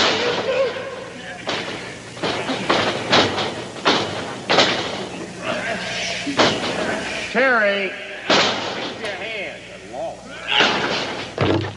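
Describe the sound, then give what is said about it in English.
Several heavy thuds as wrestler Lawler slams Terry Funk onto the ring mat, loud, landing irregularly amid excited shouting voices and a noisy, wavering crowd. “Lawler fighting his way back has just slammed Terry Funk, kicked him right in the elbow where he had it.”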